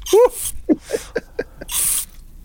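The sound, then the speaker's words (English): A violent sneeze: a strained, voiced gasp, several quick catching breaths, then a loud, hissing blast of air to finish. No talking. “You could put out them wildfires in California with that sneeze.”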